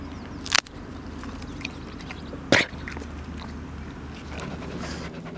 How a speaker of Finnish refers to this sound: Näin tuhisee Serbiasta adoptoitu Kamu-koira.